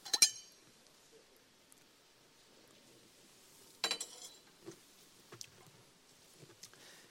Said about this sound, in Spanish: Si ustedes lo buscan, me dan la oportunidad de beber un sorbo de agua.